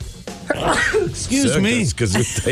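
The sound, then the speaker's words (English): A single sharp, breathy sneeze bursts out, followed by a couple of seconds of wavering, pitch-sliding vocal sounds, fairly loud throughout. “It's just a sneeze.”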